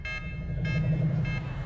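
A device beeps three times at an even, steady pace, each short, bright, buzzy tone rising above a constant low droning hum.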